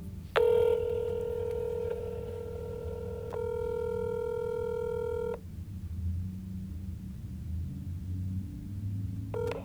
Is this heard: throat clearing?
no